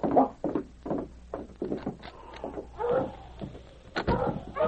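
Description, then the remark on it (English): A sled dog team of huskies, led by the dog King, barks and yelps excitedly outside in rapid, overlapping bursts, fairly loud, with a sharp knock partway through. “I have my dog team outside.”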